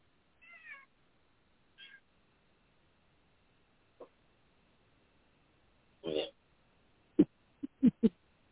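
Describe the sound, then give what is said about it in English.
A cat gives two short, soft meows with a pause between, followed later by a muffled thump and a quick run of sharp clicks or taps. “Okay, damn cat chewed up my one wire.”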